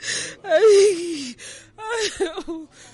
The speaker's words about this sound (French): elle pleure parce qu'elle vient de perdre sa fille de 2 ans, victime de la malnutrition.